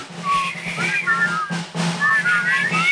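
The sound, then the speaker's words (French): Several people whistle a tune together, the melodies wavering and slightly out of sync, steady and fairly loud over a low murmuring background, with a brief dip midway before the whistling resumes. “Alors, ressifflez, alors.”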